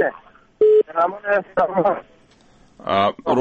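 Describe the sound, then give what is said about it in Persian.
A single short, loud electronic telephone tone beeps once, followed by a person talking over a poor-quality phone line during a call, with gaps between phrases. “تلفون دلگ خراب ده”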